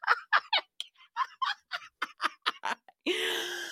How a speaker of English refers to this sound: We're going to crack a fart in Jackie Schimmel and John Hill's face.